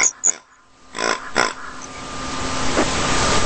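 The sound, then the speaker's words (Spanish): A pig oinks in short, rough grunts: two quick squeaky ones, then two louder snorting grunts about a second later, followed by a rising wash of background noise. “Un cerdo, un chancho.”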